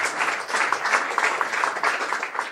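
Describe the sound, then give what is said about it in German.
A crowd applauds steadily as two people are invited onto the stage for a discussion, a dense wash of many hands clapping at once, moderately loud and sustained without a break for a few seconds. “Bisschen Applaus bitte.”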